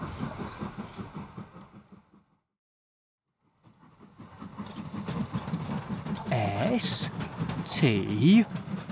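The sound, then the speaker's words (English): A train rumbles along the tracks, growing louder after a brief silence, with sharp metallic squeals near the end. Voices are heard at the start. “She's next to my train again.”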